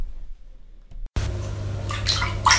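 water

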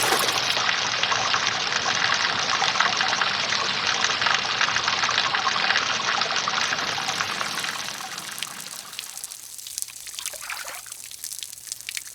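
water splashing

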